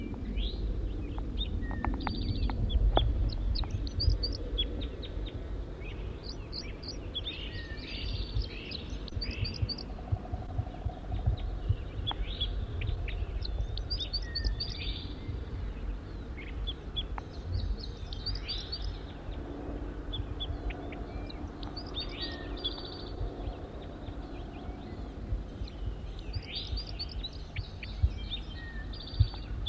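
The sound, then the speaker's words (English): A wild male bird, recorded from close range, calls repeatedly, giving bright, high chirping phrases in loose bursts throughout, over a steady low rumble of background noise. No one speaks. “Wild bird, stop. It's recording the wild male again from close range.”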